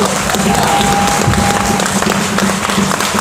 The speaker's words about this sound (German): Der Applaus, wirklich!